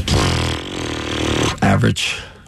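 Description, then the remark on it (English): A buzzing raspberry made by blowing air through the lips, a sustained sputter of about a second and a half, followed by a couple of shorter voiced bursts, made by Cleveland coach Kenny Atkinson opening a press conference after losing game one to Indiana. “It's never good when your coach starts his press conference with a mouth fart.”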